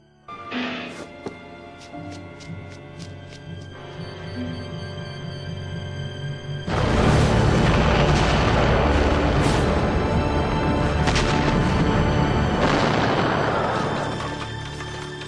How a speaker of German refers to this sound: Und ehe jemand bemerkt, was passiert ist, explodiert das gesamte Café in einer Wolke aus Rauch und Feuer.